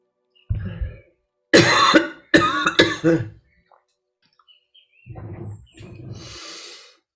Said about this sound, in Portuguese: Tá saindo até coisa de dentro, que eu não quero mais. Aí, ó. Até tosse veio.